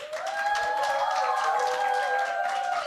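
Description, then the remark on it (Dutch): An audience applauds the day's summer school debaters steadily for about three seconds, a dense, loud wash of clapping with no talk, while a faint sustained tone runs underneath. “Ik wil graag een groot applaus voor de debaters van vandaag.”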